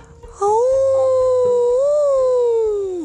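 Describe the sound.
A startled, frightened elephant trumpets once, a loud, sustained, brassy call lasting a few seconds, wavering slightly in pitch before trailing off, with no one speaking over it.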